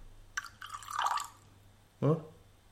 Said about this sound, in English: Do I really want a drop of water in there? I would love a drop of water.